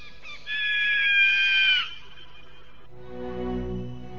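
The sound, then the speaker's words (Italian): A loud, shrill cry like a mythical firebird's rings out for over a second, harsh and sustained, then gives way to a low, swelling rumble. “Un uccello magico, l'uccello di fuoco, la fenice che appare ed emette il primo grido, e con questo suo grido dà inizio al tempo.”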